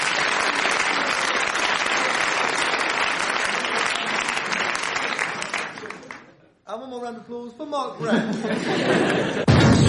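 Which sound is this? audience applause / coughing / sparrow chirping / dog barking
audience applause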